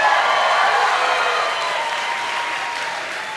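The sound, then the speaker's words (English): An audience shouts for Phil and claps in dense, sustained applause with scattered shouts mixed in, a steady wash of hands that stays loud throughout and eases slightly toward the end. “I can't believe I made that statement and you guys shouted louder for Phil than you did for Jesus Christ.”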